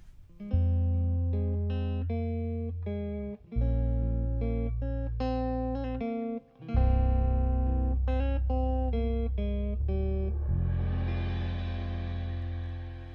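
A recorded song plays: an instrumental passage of sustained low chords shifting every few seconds beneath a plucked melodic line, steady and fairly loud, blurring into a hazier wash at the end.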